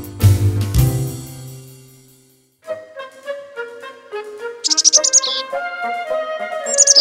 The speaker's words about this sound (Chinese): 我听到小鸟的声音，可是不知道它躲在哪里。